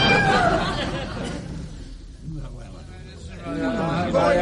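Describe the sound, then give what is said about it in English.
A cat meows near the end, a short rising-and-falling cry over a steady bed of murmuring voices and room noise. “That's why I brought the cat back with me.”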